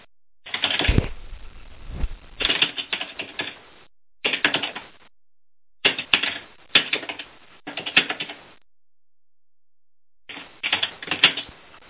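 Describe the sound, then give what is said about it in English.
Bursts of rapid keyboard typing, clicking in quick clusters separated by short pauses, fairly loud with no talking. “while you're typing, can I say something?”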